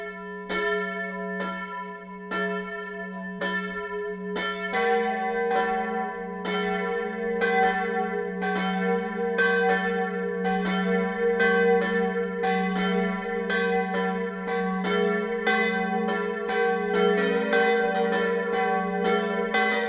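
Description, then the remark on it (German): Several church bells of the Catholic parish church Marie Lichtmess in Lindkirchen, Lower Bavaria, ring the noon chime at 12 o'clock. They peal together in a steady, overlapping rhythm, their strikes ringing out loud and sustained with a rich hum beneath, no voices present. “Das Mittagsläuten kommt heute von der katholischen Pfarrkirche Marie Lichtmess im niederbayerischen Lindkirchen.”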